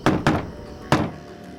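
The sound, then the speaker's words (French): Three dull knocks on a hotel room door in San Tomas, in a deliberate coded pattern meant to warn someone inside: two quick raps, a short pause, then a single knock. Fairly loud, with no voices. “Le type des … essaya d'alerter son ami en frappant à la porte d'une façon particulière.”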